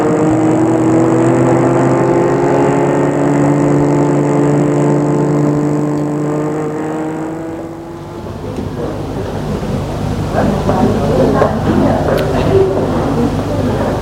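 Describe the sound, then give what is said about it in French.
A car engine hums steadily for several seconds, then gives way to a rougher, louder rush of road and engine noise as the car keeps driving, taking a woman to the airport after breakfast. “Le lendemain de la soirée, après le petit déjeuner, elle est menée à l'aéroport en voiture.”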